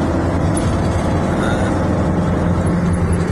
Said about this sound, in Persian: دوباره یه ماشین دیگه حامل موشک هستش، احتمالا موشک هایی با برد متوسط رو به پایین. من فکر میکنم برای حفاظت از مثلا از خلیج باشه. بازم موشک هستش، استتار کردن مثلا.